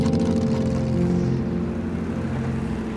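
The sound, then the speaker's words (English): A motorcycle engine rumbles steadily, a low, throaty drone holding an even pitch for a few seconds as a boy and his father ride off on it from the studio, with no voices present. “At the studio, Otis climbs onto the motorcycle behind his dad. He grips his father's waist and they ride off.”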